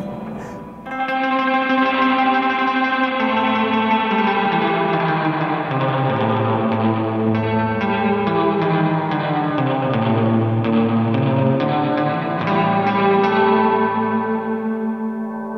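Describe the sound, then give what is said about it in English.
A thick, sustained chord played through an old Twin amp with the reverb doubled up swells in after a brief pause and hangs for the whole stretch, drenched in heavy, layered reverb that smears the notes into a dense, shimmering wash. “Where I just double up on the reverb.”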